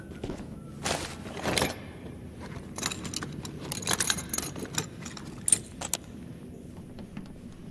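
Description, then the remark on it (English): A door lock being picked: small metallic clicks, scrapes and jingling rattles in irregular bursts, some sharper ticks standing out, over a faint low rumble with no voices. “Explosives, assassinations, and now lockpicking.”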